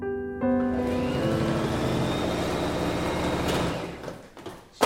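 An electric sewing machine whirs up with a tonal motor hum, then rattles through a steady run of rapid stitches before winding down and ending on a sharp click.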